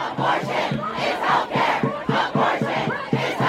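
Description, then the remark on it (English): A dense crowd of many voices shouts and chants together in rhythmic bursts, loud, with overlapping yells filling the whole span: a crowd gathering outside the U.S. Supreme Court after a leaked draft opinion to overturn Roe v. Wade. “As the news spread, a crowd started to form outside the Supreme Court.”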